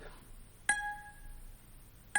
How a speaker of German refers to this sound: Ja, hier habe ich jetzt meinen Laptop und ihr hört, er wird erkannt im Kamerabild und ein Ton wird abgespielt.